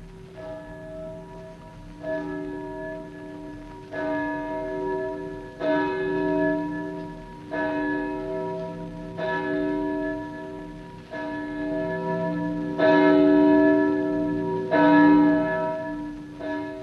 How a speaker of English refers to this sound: And therefore, never seek to know for whom the bell tolls. It tolls for thee.